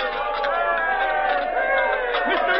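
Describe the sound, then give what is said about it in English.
A crowd cheers at a world's championship pie-eating contest at Madison Square Garden on March 11, 1936, as a contestant goes for the record. Many overlapping voices form a dense, steady roar, fairly loud for the whole stretch without a break, with a thin, muffled tone. “Listen to the crowd cheer.”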